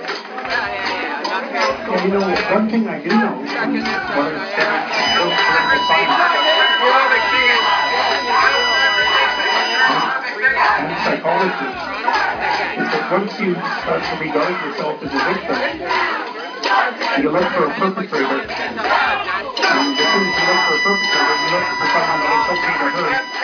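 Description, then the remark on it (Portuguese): A loud, continuous din of many voices as activists shout and chant at once to drown out Peterson trying to speak at a university, a chaotic crowd clamor with a few sustained tones, like a whistle or buzzer, cutting through the noise. “Essa bagunça que você ouviu aí é um dos momentos em que Peterson tenta falar numa universidade enquanto ativistas gritam para que ele seja calado.”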